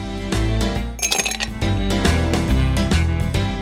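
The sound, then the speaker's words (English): Glasses of sipping rum clink together in a toast, a short bright chiming burst near the start, followed by a steady musical bed that plays on without any voices. “A really fantastic rum from a fantastic distillery. Cheers.”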